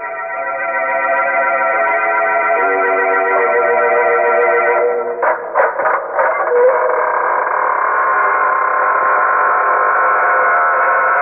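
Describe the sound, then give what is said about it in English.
The squeaking door of the Inner Sanctum Mystery radio show: a long, drawn-out door squeak with a whining, strongly tonal creak that shifts pitch, broken by a few short jolts midway before the groan carries on steadily. No one speaks. “This is your host, welcoming you through the squeaking door.”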